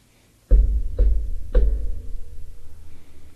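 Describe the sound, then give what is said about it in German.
Three heavy, booming knocks on a castle door, evenly spaced about half a second apart, each with a deep resonant thud that rings on and fades slowly afterward. “Und ihr klopft an die Tür des Schlosses.”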